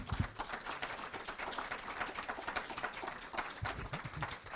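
An audience applauds steadily for several seconds, a dense, even wash of many hands clapping at once with no voices or other sounds standing out.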